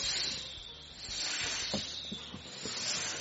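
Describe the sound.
A voice imitates a snake's hiss, a sustained breathy hissing held for a few seconds at steady volume, with slight wavering and no spoken words.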